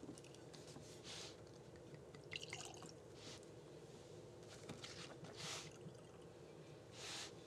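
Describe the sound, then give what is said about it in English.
86-proof whiskey trickles and splashes into a glass in several short, gurgling bursts, fairly quiet, with no one speaking. “All right, so let's get into the nose, the pouring experience, and then we'll rate this bad boy.”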